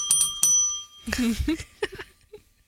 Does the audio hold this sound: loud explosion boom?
no